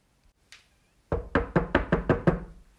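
A quick, steady series of about seven firm knocks on a door, close by and evenly spaced, after a brief faint tap. No voices.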